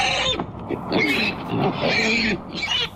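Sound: pig grunting and squealing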